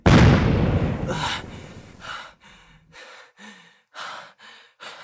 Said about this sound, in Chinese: 没想到吧，我的青玉靴可以爆炸，玉石在最后救了我一下。